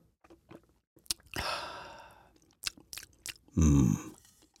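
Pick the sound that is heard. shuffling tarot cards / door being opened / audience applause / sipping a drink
sipping a drink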